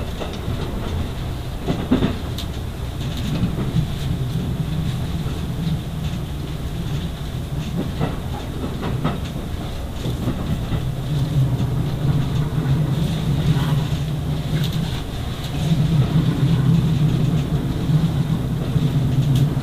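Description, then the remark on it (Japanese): A steady low rumble of the JR East Resort Asunaro Shimokita rapid service train rolling along the rails toward Shin-Aomori, Japan, heard from inside a carriage, with faint intermittent clacks and rattles and a constant drone that swells slightly near the end. “Ladies and gentlemen, welcome aboard the resort Asunaro Shimokita Rapid Service bound for 新青森.”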